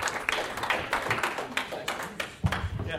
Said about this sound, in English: Clap your hands for your first round two competitor